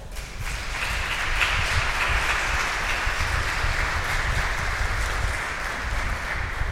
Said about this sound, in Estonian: No, mis me teeme? Teeme aplausi neile.